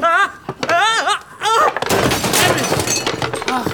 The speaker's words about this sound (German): Die Vitrine. Das Glas. Nur noch Scherben.